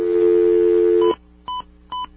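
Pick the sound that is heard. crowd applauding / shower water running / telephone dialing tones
telephone dialing tones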